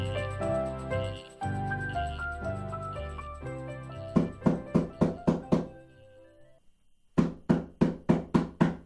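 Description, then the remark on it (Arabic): After a stretch of soft background music, someone knocks on a door in two rapid, even series of about six or seven firm raps each, separated by a brief pause. “تعال وافتح الباب يا بني.”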